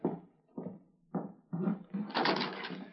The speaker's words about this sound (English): Guess I'd better open that back door now.